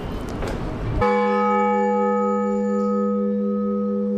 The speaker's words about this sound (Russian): Что означает благовест? В детстве, как я общался со звонарями, это основной звон, созывающий к службе прихожан.